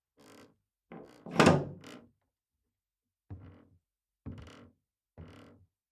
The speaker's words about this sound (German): Jetzt hörte Magdalena deutlich, wie er über ihr den Riegel der Tür langsam verschloss.